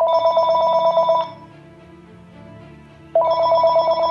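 A telephone rings twice at a house in Jupiter, Florida, on Thanksgiving evening 2009, each ring a steady, bright trill lasting over a second, separated by a quiet pause. A low hum continues faintly underneath, and no one speaks.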